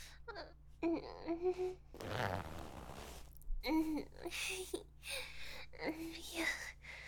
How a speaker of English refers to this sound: I'll unzip your pants now. Bite down on the zipper. Just pull it down with my teeth.